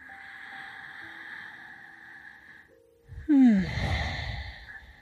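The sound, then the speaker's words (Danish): A steady, droning musical tone plays for a few seconds, then a single loud, deep breathy exhale rushes out, trailing off with a sighing fall, as a person takes deep breaths while holding a simple twist stretch. “Tre vejrtrækninger mere her.”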